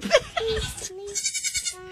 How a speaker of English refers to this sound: And there's some other goats, too, and they're kind of like singing along backup vocals.